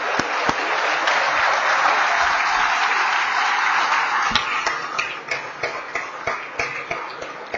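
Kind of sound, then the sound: crowd, audience applause welcoming guests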